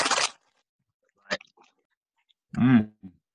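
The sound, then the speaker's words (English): A short burst of crinkly rustling from the packet of a raisin-tasting snack, then a single crisp crunch of a bite, followed by a brief hummed voice sound and a faint chewing noise. “Can you hear the packaging?”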